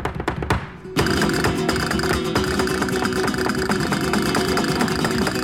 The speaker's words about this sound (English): Jeez, listen to her just set those castanets on fire. Owns it, doesn't she?